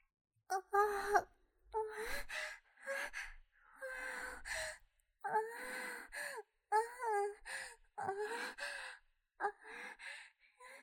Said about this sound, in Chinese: 然后是勇者君根本无法无视的假意娇喘，勇者君在耳边故意喘着娇声，可不能被骗啊。行啊， 女性的喘息声会强制性的激起男性的本能。